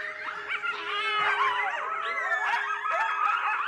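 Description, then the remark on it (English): A chorus of coyotes in New Mexico howls and yips together, wavering high-pitched cries overlapping continuously at moderate volume, with no talking. “And New Mexico, like a lot of the United States, is also home to one of their biggest predators, an animal that has not only adapted, but thrived through human expansion, the coyote.”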